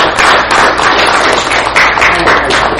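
A large crowd at a weekly shiur breaks into loud, sustained applause, a dense wash of many hands clapping at once that holds steady for a few seconds with no voices.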